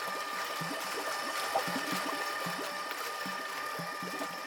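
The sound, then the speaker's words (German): Water churns steadily in a tank about 1.5 metres high and 1 metre wide, stirred by a rugby-ball-sized stainless steel stirrer that rotates rhythmically, with soft rhythmic pulses and a faint mechanical hum underneath. No voices, just the continuous swirling. “Mit rhythmischen Bewegungen dreht er sich um sich selbst und erzeugt dabei eine leichte Strömung.”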